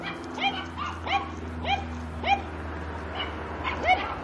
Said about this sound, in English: We have dogs. What a surprise.